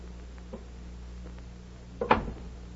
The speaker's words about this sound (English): Suddenly... Excuse me a minute, Betty, while I answer the door.